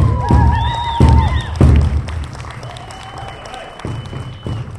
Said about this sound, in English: Let's give them a round of applause again, please.